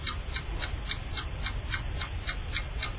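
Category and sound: signal or alarm, quiz countdown clock ticking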